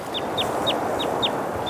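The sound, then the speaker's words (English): A small bird moving through willow trees beside a rushing snow-melt mountain stream repeats a short, high, downward chirp about every quarter second, six calls in a steady rhythm, set against a constant rushing wash of flowing water. “Birds move through willow trees near the water as I hike on.”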